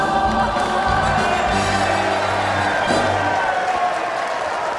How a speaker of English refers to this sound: Lizzie smiles at the applause. Lizzie looks worried. John sits in the audience and applauds with a satisfied smile.